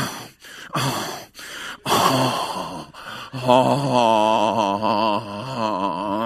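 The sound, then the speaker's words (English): A voice performs exaggerated, labored gasping, with several sharp rasping inhalations that give way to a drawn-out, wavering moan-like wheeze. The sounds are loud, with no words spoken. The gasping is a comedic imitation of a breathing disorder while waiting impatiently. “And I start getting a breathing disorder.”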